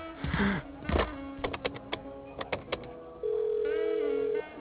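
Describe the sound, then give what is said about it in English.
A telephone beside a stuffed pelican is picked up and dialed to make a call: a quick series of close, sharp clicks and beeps, followed by a steady electronic line tone that holds for about a second. No one speaks. “Hey, would you mind if I made a phone call, please?”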